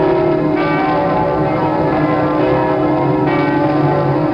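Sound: bells ringing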